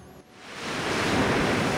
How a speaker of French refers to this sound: Wow, il y a du vent et tout. Ah, c'est trop bien. On est sur la plage, je sais pas où. Je lève la tête, il y a des palmiers au-dessus de ma tête qui bougent tranquillement au gré du vent.